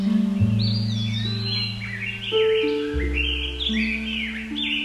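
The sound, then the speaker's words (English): Toucans call from trees in thick, rainforest-like woodland around a train station, skipping across the branches from tree to tree: a run of bright, warbling chirps that rise and fall continuously over a steady, sustained low musical drone, with no one speaking. “John sees some toucan birds in the trees.”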